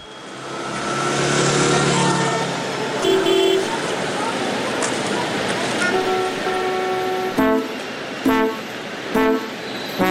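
Dense street traffic rumbles steadily, with cars waiting at traffic lights and people among them in light drizzling rain, as car horns honk: a couple of longer blares midway, then several short, sharp toots in quick succession toward the end.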